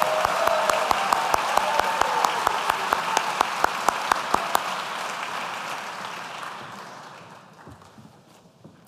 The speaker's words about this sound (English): Please join me in a round of applause for our Executive Masters in Health Administration graduates.